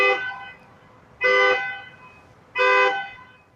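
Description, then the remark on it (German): A Waymo self-driving car horn honks three times in short, loud blasts, each about half a second long and spaced a second or so apart, with a steady low background hum between them. “So klingen, wenn man dem Internet trauen darf, selbstfahrende Autos des Unternehmens Waymo.”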